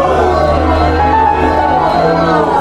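A loud, continuous wash of many voices shouting and clamoring at once, an audience jeering and throwing bread baskets and paper wads at the characters of a performance, a dense crowd roar with no single speaker standing out, sustained without pause throughout.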